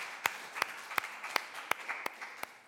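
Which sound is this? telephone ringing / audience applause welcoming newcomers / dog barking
audience applause welcoming newcomers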